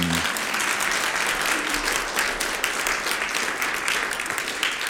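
Steady, dense applause from a large audience as a 10-year-old girl comes forward with her recorder, many hands clapping at once in a continuous loud wash of sound with no pauses and no voices standing out.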